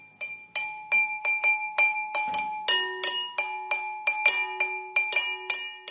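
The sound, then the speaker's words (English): Bright, ringing glass tones struck in a quick, steady rhythm, a musician jamming with a couple of pencils on two round glass vases used as DIY percussion, at different pitches, in a small third-floor room of a former sewing machine factory at Free Space, each hit sharp with a short shimmering decay, no voices. “he's jamming on some DIY percussion instruments, two round glass vases, and a couple of pencils.”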